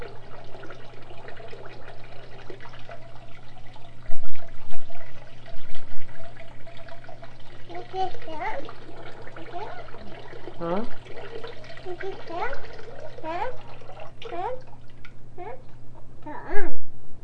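Water sloshes and splashes in bursts in a bathtub as a young child plays in it, a few louder splashes standing out, while the child babbles and coos, with a steady low hum.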